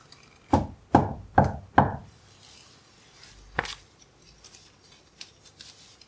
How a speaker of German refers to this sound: So schlucken sie die letzten Bissen herunter und klopfen an die Tür vom Lebkuchenhaus, als seien sie die Botschafter einer Geschichte, die um Einlass in ein neues Märchen bittet.